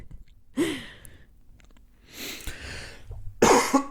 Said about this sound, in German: Entschuldigung, ich muss meine Antwort von eben korrigieren. Ich huste doch anscheinend häufiger.